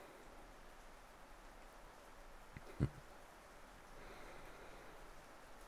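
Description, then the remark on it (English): Soft, steady rain hisses evenly throughout, fairly quiet and diffuse, with one brief dull knock partway through. No one speaks. “Yeah, I'd say so, but walking that far in the rain does not sound fun.”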